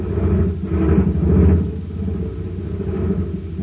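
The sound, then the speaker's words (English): A low, rough jet cycle engine, filled with ordinary fuel at a filling station, sputters unevenly, swelling in a few weak surges before settling into a thin, sluggish idle, with no voices. “A jet cycle has just pulled into a filling station to get its tank filled. The man has it filled with ordinary fuel.”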